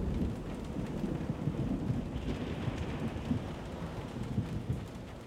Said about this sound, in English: As the sun set, a storm blew in from the ocean and shook our hostel. The winds howled and the power went out.